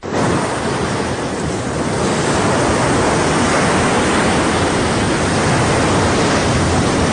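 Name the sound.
ocean waves surf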